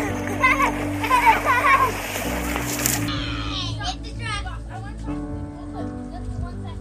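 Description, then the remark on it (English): Water splashes and churns in a creek, loudest for the first few seconds before settling, with children's voices and a steady musical backing underneath. “Jump in a creek.”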